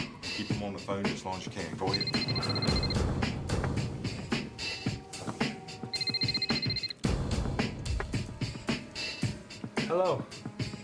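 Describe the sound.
A telephone rings twice, each ring a bright, trilling burst lasting about a second, set against a busy, continuous background with voices and other activity.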